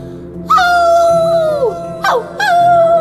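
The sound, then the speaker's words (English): A person imitates a dog's howl: one long, wavering howl that slides downward, a brief rising yelp, then another sustained howl. It is loud, with no talking. “You don't wanna howl? You don't have to howl. I'll do it all by myself.”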